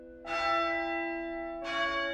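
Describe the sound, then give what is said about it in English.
A church bell rings out with two clear strikes, each a bright metallic clang whose rich tones hang and overlap, the second sounding as the first is still humming. No voices. “Ring the bell.”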